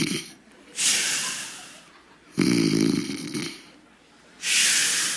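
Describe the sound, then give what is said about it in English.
A voice imitates a sleeper's snoring: slow cycles of a hissy drawn-in breath followed by a low, rattling snore, repeated about twice with brief pauses between. “Like, a normal person sleeps like this.”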